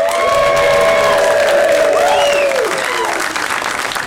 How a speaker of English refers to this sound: It should be applause first and then me saying we are back. That'd be weird just at the other commercials to hear me say that and then people applaud.